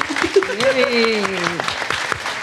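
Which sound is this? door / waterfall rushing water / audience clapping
audience clapping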